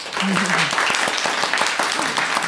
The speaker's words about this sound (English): In the bijou surroundings of Durham's Gala Theatre Studio, and we are delighted to welcome as our guest, little round of applause, please,